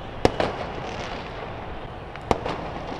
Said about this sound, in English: Fireworks shook Cairo and cheers rang out across Egypt after the 82-year-old president resigned his post following 18 days of massive street protests.